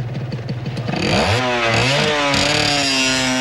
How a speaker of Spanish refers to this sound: Acabada la cena, Jien sube a la moto de Mindao y se va con él.